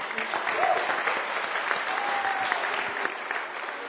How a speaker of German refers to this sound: Also für, ja, ihr dürft klatschen. Ja.